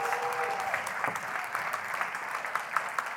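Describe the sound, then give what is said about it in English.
An audience applauds the guest worship leaders steadily, many hands clapping in a dense, continuous patter at moderate volume, with no voices standing out. “I'm glad you clapped.”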